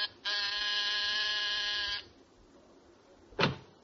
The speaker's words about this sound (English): There's a pair of martinis and a good dinner under your belt at 10 o'clock as you press the buzzer outside his apartment.